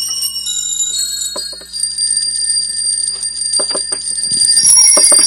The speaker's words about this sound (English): It's a keyboard instrument that has copper chimes, all tuned to the same note plus octave, and in fact deliberately slightly detuned. And so when you play the key, if you play it with a slow tremolo, you get this continuous tone,